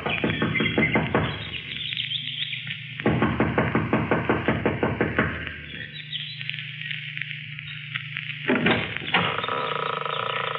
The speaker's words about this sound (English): She knocks impatiently, looking about anxiously.